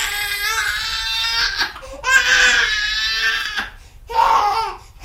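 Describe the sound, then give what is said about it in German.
An infant held in its mother's arms, already fed and freshly changed, wails loudly in three long, strained bursts separated by brief gasping pauses, the cries harsh and piercing, with no talking. “Es hat warm und ist im Arm der Mutter. Und schreit weiter. Schreit und schreit, stundenlang, jeden Tag, seit langem.”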